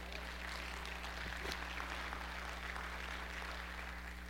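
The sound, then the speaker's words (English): A church audience claps together for the Lord during a sermon in a steady, dense wash of applause that holds for several seconds over a low electrical hum. “If the Lord speaks to you, clap like you're clapping for him, okay?”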